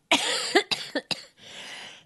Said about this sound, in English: sorry, guys. That cough is still there.